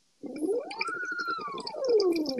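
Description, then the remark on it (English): Bubbles blown through a straw into water, a continuous burbling stream of rapid gurgling pops with a tone that rises and then slowly falls, steady and fairly loud with no talking. “But mostly what we did was, it was either, like, blowing on a straw or blowing on a straw into water. Bubbles.”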